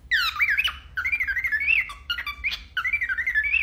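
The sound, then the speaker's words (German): A cockatiel whistles a single-voiced, wavering tune, imitating a monophonic sound in three loud phrases broken by brief gaps and a couple of harsh, scratchy squawks. “Das war jetzt ein Nymphensittich”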